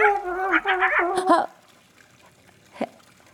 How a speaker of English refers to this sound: Hey. Hey, dog. What are you doing up there? Wait. You're not a dog. You're a coyote.